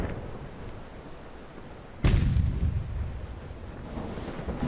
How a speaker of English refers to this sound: I had to run for powder, and then the cannons were rolled out. We fired a salute that roared between the rocks and the town. It was so loud that my ears hurt.